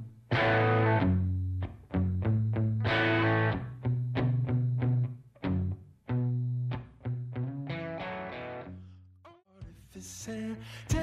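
A rock song plays loud and up front, with distorted, effects-heavy guitar chords hitting in a choppy stop-start rhythm, building into a denser, brighter section near the end.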